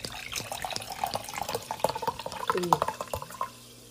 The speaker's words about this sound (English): My God, this water is so good. I'm going to pour myself some San Pellegrino here.